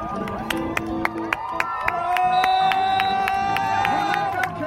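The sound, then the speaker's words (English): A crowd at a small local rodeo cheers and shouts as eight-year-old riders are bucked off horses, a steady wash of many voices rising partway through, with sharp periodic clicks or claps punctuating it and a ringing tone swelling above. “Like a really local rodeo, just fascinating with eight-year-olds being bucked off horses to cheers from the crowd and women, ranch girls, they were called, racing around barrels on horses.”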